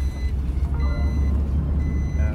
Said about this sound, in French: C'est la voiture qui bipe parce que ici, la ceinture, c'est pas automatique quand on monte en voiture.